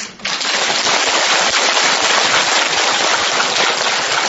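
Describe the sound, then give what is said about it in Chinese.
An audience claps loudly and steadily for a speaker, a dense, continuous patter of hands that starts abruptly and holds at full strength without fading, with no voices over it. “好了，你们再鼓掌，我也不跟你们讲了”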